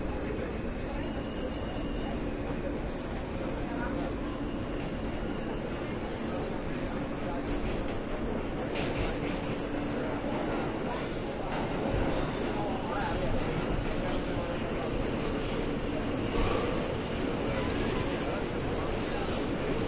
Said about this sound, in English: This is a World Trade Center bound E train. The next stop is 50th Street. Stand clear of the closing doors, please.